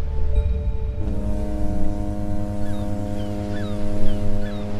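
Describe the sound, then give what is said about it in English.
The foghorn of a ferry to Vancouver Island, on a gray, cold, windy morning, sounds a deep, buzzing blast that starts after a second of low rumble and holds steady and loud to the end, with faint high chirps flickering above it. “It was a gray morning, cold and windy, when we got on the ferry to Vancouver Island.”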